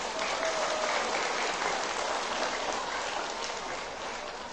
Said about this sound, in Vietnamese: Xin dành một tràng vỗ tay thật lớn.